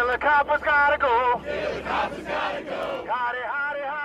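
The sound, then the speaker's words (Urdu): A crowd of protesters in the streets of New York chants slogans demanding justice, in loud, rhythmic unison. Voices rise and fall in repeated phrases, with a roar of overlapping shouts between the chants. The protest is a reaction to a jury's decision not to prosecute a white police officer over the death of an unarmed black man. “مظاہرین نے new York کی سڑکوں پر نکل کر انصاف کے مطالبات پر مبنی نعرے بلند کیے.”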